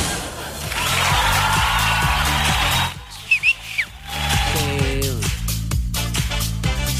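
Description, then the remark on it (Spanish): A few short, bright whistled chirps ring out in a brief lull of a bass-heavy music track, sliding up and down in pitch before the music swells back in. “El famoso silbido.”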